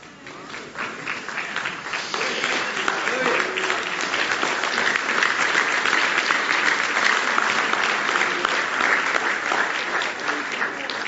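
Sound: audience hand clapping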